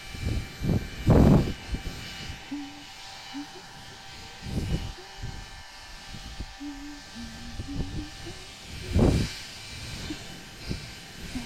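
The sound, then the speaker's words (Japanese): A hair dryer blows in a steady rushing stream with a thin motor whine as someone dries another person's hair, the airflow surging louder in bursts as it moves around, while a faint voice murmurs briefly underneath. “ああそうだ、頭乾かそう。うん、ドライヤーしてあげるね。”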